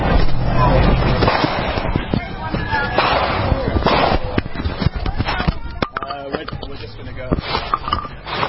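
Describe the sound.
A rapid, irregular burst of sharp gunshots cracks out repeatedly over several seconds at George Floyd Square, fairly loud, with a murmur of voices and background commotion underneath.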